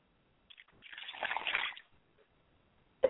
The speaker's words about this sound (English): So we pour libations to the east and we say Ashe.